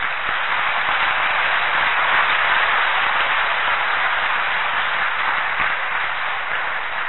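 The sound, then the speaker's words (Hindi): A large audience seated in a hall claps with joy, steadily and loudly for several seconds, a dense, sustained wash of applause with no voices standing out above it. “दादी जी देखिए बाबा को देख रहे हैं, बाबा दादी को देख रहे हैं, देखिए और जोर से खुशी की ताली बजाओ।”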